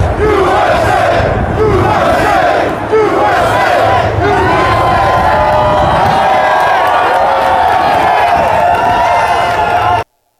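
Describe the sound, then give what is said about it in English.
A large crowd of New York union workers chants "USA" loudly in unison as Trump visits them, many voices shouting a repeated rhythmic cheer continuously for about ten seconds before cutting off. “A USA chant broke out from the large crowd of New York union workers”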